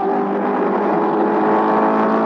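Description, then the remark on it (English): A loud, steady Ford Mark IV race car engine, the winning car at Le Mans, France, in June 1967, roars at high revs, a dense sustained drone with strong harmonic bands and no pauses, continuous throughout. “You're listening to the car that won, the Ford Mark IV.”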